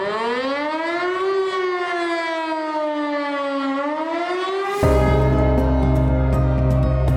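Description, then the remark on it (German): A loud civil defense disaster warning siren wails, its pitch slowly rising and falling, then abruptly switches to a harsher, steady blaring tone for the last few seconds. No voices. “Spaß beiseite, im Ernstfall sollten Sie diesen Sirenenwarnton für den Katastrophenfall natürlich unbedingt hören.”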